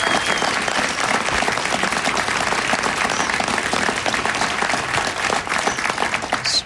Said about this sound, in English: Please give Carol Browner a big round of applause.